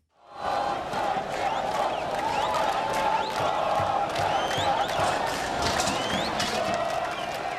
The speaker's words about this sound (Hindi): Lebanon की राजधानी Beirut की सड़कों पर गूंजते ये नारे सरकार की सुस्ती तोड़ने के लिए लगाए गए।